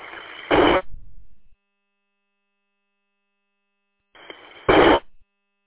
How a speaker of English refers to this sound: I didn't quite hear what you say. All I heard was static.